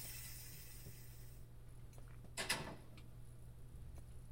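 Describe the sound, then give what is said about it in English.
A front door is knocked on, then unlatched and opened: one brief, faint mechanical clack and rattle midway, set against a low steady hum and soft background hiss, with no voices. “You knock on the front door and Crystal comes to the door a few seconds later.”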